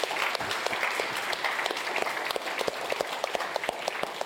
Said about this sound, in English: Yeah. So this applause, these are applauses for you. This applause is for you. Thank you for your support.